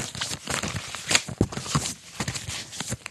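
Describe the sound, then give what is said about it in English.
Four vinyl records being shuffled: a busy run of papery rustling, sliding and scraping, with irregular sharp crinkly bursts among softer shuffles, and no voices. “You can hear, even on the radio, you can hear the shuffling.”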